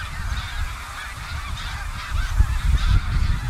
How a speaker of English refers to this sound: Okay. Heading north, not south. I know, it's the wrong way. Go back. I mean, I think that these geese are one of the great natural events in all of New England.